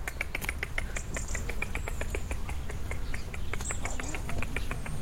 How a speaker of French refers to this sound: C'est le rouge-gorge qui est pas loin. C'est un rouge-gorge.